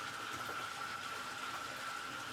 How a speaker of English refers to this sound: Oh, hold on. Before I tell this, let's get some more water in this motherfucker. I don't even know if y'all can hear me with that going on.